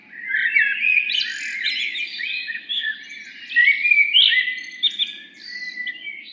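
Birds chirp and twitter continuously in a busy, overlapping chorus of high, quick notes, steady throughout, with a faint low rumble underneath and no voices.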